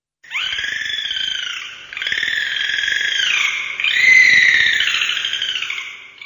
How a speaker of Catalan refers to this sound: Aquest animal sí que ens agrada a tots. El dofí, és clar.